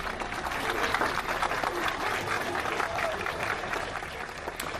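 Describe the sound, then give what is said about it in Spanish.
Sustained applause from a crowd of mourners, mothers, wives, sisters and friends, in the square of the Vila Cruzeiro neighbourhood, a dense steady patter of many hands clapping at even loudness throughout, with no voices standing out. “Todo en un silencio mezclado con aplausos.”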